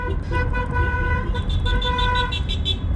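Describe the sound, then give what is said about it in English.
Several car horns honk in overlapping bursts, some held long and steady, over a constant low rumble of traffic, sounding like a street full of cars tooting together: people in the cars alongside celebrating spontaneously, in Florianópolis, Brazil. “Spontaneous celebrations from the people in the cars beside us. We join in.”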